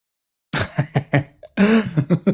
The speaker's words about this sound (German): Aber was hustet meine Frau jetzt? Meine Ehefrau ist am Husten. Vielleicht muss ich gleich mal bei ihr vorbeigucken.